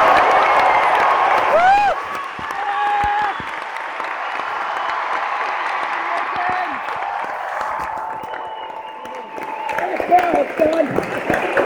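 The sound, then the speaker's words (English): A large audience at a live show in Melbourne claps and cheers steadily. It is a dense wash of applause, with scattered whoops and shouting voices rising above it, staying loud throughout and swelling again near the end. “Can we start the clapping in the chair and get your hands up?”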